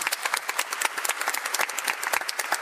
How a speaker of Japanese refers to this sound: この素晴らしい会場に韓国から立派な皆様方が見えていただきまして、大変どうもありがとうございます。拍手お願いします。